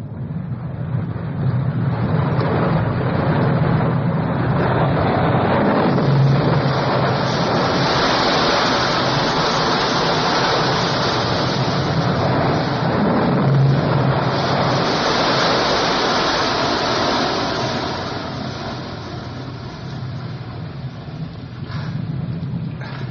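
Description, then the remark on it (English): Loud, continuous roar of rushing, crashing water in a tunnel, a sound-effects scene with no music, with a low electronic droning hum running steadily beneath it and no voices. “Water crashing and that electronic kind of sound while he's in the tunnel.”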